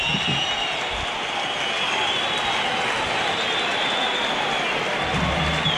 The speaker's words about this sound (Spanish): Con pitos de la afición, muchos aplausos de toda la grada para el Ceares y bastantes pitos ya en el tramo final del partido para los cambios,